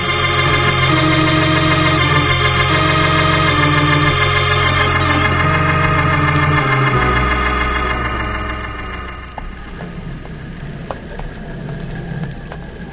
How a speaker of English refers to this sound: How's that engine doing, Ned? Yeah, going slick as a whistle. Told you I knew how to run them, didn't I?